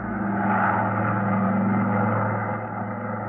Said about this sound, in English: So he chartered a plane, and we took off for Miami.